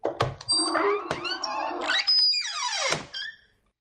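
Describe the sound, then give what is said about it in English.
A whimsical secret door opening sound effect, played on a call-in show to let the first guest in: warbling, creaky tones and rising sweeps, then a long descending glide and a brief ringing tail, about four seconds with no talking. “So let's open up the secret door, first of all, to let our first guest in.”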